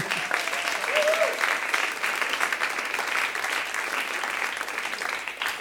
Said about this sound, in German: Geben wir einen herzlichen Applaus meiner Frau